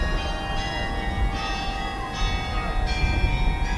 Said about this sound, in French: Copenhague, la capitale du Danemark au petit matin. C'est la cloche de l'église Notre Sauveur qui résonne. Nous sommes dans le quartier historique de Christianshavn, un petit îlot de terre coincé entre les canaux.